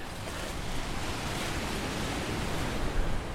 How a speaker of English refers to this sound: I'm headed to the Pacific Ocean. Wow. Big whitecaps crashing in and sea stacks behind.